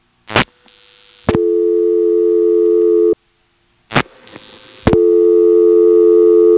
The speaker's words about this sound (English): So it's actually a two-stage process. And in this office you can hear the two stages. Notice that as we pick up the phone, there's a buzz that comes on the line halfway between picking up and getting the dial tone. Listen carefully.